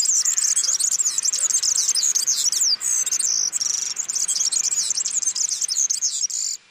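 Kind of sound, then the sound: bird, european serin song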